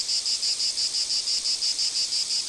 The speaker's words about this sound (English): Haven't heard a cicada lately? Their songs can most often be heard just before dusk around 5 p.m. in areas with large trees, either deciduous or pine. Now is the best time to hear them before the dog days of summer are truly over.